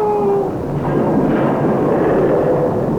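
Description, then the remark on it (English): A loud, heavy crash of wreckage (a broken beam, bells and belfry flooring) hitting the ground, a dense rumbling roar that fills the whole three seconds after a brief tonal whine at the start. No voices. “As from below came the jarring thud of wreckage hitting the ground.”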